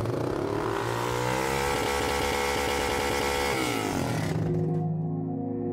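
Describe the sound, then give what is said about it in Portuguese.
A loud, raspy modified motorcycle exhaust revs up and holds a high, buzzing pitch, then drops back to a rumbling idle near the end. Unbroken, with no voices. “Uma coisa também que me chamou muita atenção é que normalmente a modificação deixa o ruído da motocicleta mais estridente, que ele é mais perturbador do que um som grave.”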